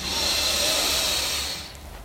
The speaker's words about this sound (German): Wir nehmen jetzt zusammen einen tiefen Atemzug und atmen ein.